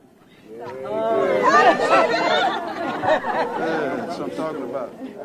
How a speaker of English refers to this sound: Outside the Wyandotte County Courthouse in Kansas City, Kansas, a crowd is gathering